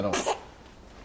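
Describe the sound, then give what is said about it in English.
A single sharp sneeze bursts out, brief and forceful, right after a few spoken words, then fades into quiet background noise. “Bless you.”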